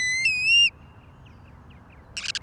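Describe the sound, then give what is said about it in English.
A ruddy turnstone, a stocky shorebird, calls: one loud, drawn-out whistled note, then after a quiet pause a quick burst of staccato chattering notes, with no talking. “This is WSHU's Bird Song Break. This week, the Ruddy Turnstone.”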